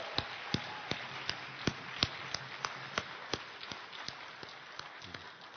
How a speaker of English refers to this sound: Let's give John another round of applause for a great, great sermon.